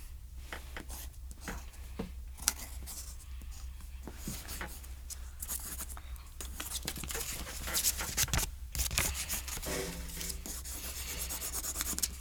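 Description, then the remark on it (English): A pencil scratches steadily across paper while doing homework, with continuous rasping strokes and brief pauses, over a low constant background hum. “I got my pencil and my paper. Now time for my homework.”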